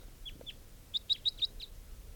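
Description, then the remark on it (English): A crossbill coming down, recorded at 9:01, gives a quick run of sharp, high-pitched chip notes, four clear ones in even succession with a few fainter calls before and after, over quiet background hiss. “And there's a crossbill coming down here.”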